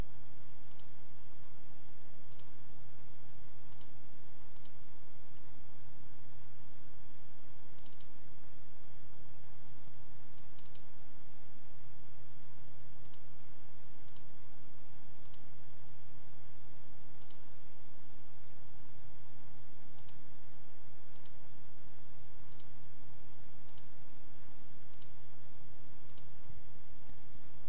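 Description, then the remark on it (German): Sharp, isolated computer mouse clicks sound every few seconds at an uneven pace while clicking through the Edit, Preferences and Behavior settings menus, fairly crisp, over a steady low electrical hum with no talking. “Möchte man, dass sich jedes Mal ein neues Fenster öffnet, klickt man auf Bearbeiten, Einstellungen, klickt auf Verhalten und entfernt das Häkchen bei Immer in Browser Fenstern öffnen.”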